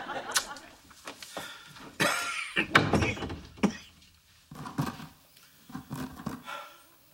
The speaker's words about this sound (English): Don't scratch the door, Sir Lancelot.